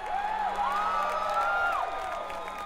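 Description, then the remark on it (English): An audience at a banjo performance yells a drawn-out "yee-haw" together, many voices overlapping in whooping, rising-and-falling shouts mixed with cheering, sustained at steady volume for a couple of seconds. “Everybody, if you love the sound of a banjo, won't you please say yee-haw?”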